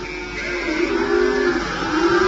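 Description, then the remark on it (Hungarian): A loud, continuous din of farm animals (pigs, donkeys, sheep and cows) loose in a palace, with overlapping braying and bleating and rough grunts, sustained throughout the short stretch with no pauses and no one talking. “Állatok kerültek az én palotámba. Disznó, szamár, birka, tehén ugrál atta a cég tetején.”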